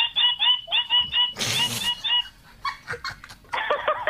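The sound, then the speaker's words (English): A person imitates a bird with a run of shrill, warbling chirps and squawks in quick bursts, broken by a brief breathy rush before more piping calls. “I don't really know if this is any good, but okay, so I'll make a bird noise.”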